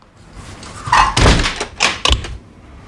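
A door at Dazzler's is shut by a burly man waiting inside with a heavy, dull thud, followed by a few quicker knocks and a sharp click as he locks it. No voices.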